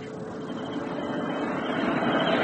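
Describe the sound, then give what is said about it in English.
An armored car's engine drones in a steady, heavy rumble with a broad hiss on top, swelling slightly louder over a couple of seconds as it drives past on its way to the next watchtower. No one speaks. “An armored car. It will call to the next watchtower, then come back this way in about 15 minutes.”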